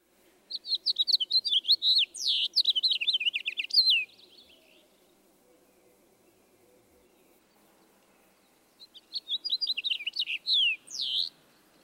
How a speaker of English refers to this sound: Let's hear these two finches again. First, the house finch with its raspy sounding notes.